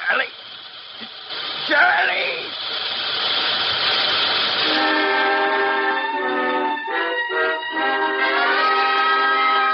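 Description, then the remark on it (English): A train collides with something on the track: a roaring, hissing rumble with a brief jolt, then long, loud whistle blasts that waver and cut in and out. “Hey, there's something on the track. Huh? Well, what is it? Well, we're going to hit.”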